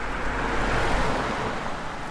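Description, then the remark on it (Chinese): A car drives fast through a puddle, splashing water all over a person, throwing up a loud, steady rush of splashing water that hisses for a couple of seconds, with no voices. “你打什么空车啊？还开这么快，溅人家一身水！”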